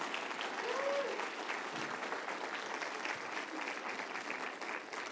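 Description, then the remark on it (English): A church audience breaks into sustained applause for the Lord during a sermon, dense hand clapping steady and loud for the full five seconds, with a few scattered voices and a brief rising whistle-like cry near the start. “If you believe that, give the Lord a hand clap, shout amen.”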